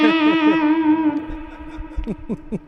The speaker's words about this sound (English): So it sounds, just based on how you were attacking the string, it sounds really responsive. Yeah, you can kind of dial it in based on even how you're hitting it. I feel like Nigel from … here playing fuzz for you. Yeah. You hear the sustain.